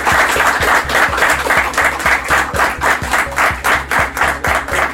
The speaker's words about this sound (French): Je propose que vous soyez applaudis.